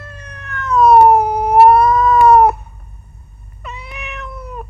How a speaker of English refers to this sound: Oh, is it a cat? Yes, it is a cat. Children, is it a cat? Yes, it is a cat.